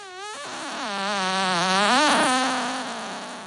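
A long, buzzy fart that wavers in pitch, sustained for several seconds, loud, swelling in the middle and trailing off at the end, with no talking over it.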